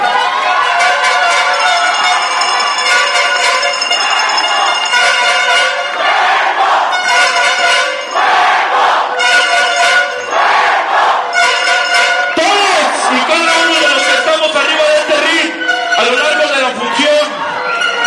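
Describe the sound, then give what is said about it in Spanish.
A large audience at a lucha libre event cheers and applauds loudly for the wrestler Cuervo of Puerto Rico, a dense, sustained roar of many voices shouting and whooping that stays strong for the whole stretch with no break. “Un aplauso para Cuervo, por favor.”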